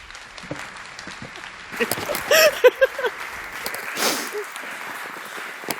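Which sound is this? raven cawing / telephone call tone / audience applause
audience applause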